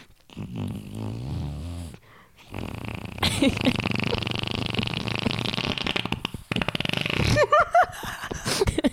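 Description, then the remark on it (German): A person imitates a fluttering fart with their mouth, a loud sputtering, rattling blast lasting several seconds, broken into rapid flapping pulses near the end. “Und dass du das wirklich vormachst. Und wie Caroline Kebekus den Baby pups”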